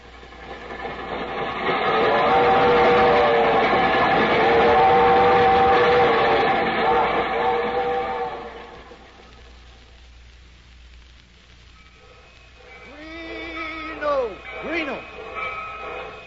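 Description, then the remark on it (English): The Albany Special passenger train pulls out from track 6 at a station with a loud, steady rumble that lasts several seconds and then fades. Quieter station ambience follows, with brief voices near the end. “The Albany Special leaving on track 6.”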